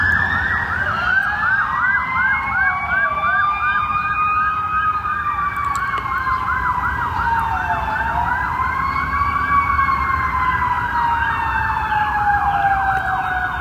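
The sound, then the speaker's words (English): Several emergency sirens wail together, their pitches sweeping up and down in overlapping loud cycles over a steady low rumble of traffic. “Hope whoever they're going for is okay. There's a bunch of them. Here comes another one.”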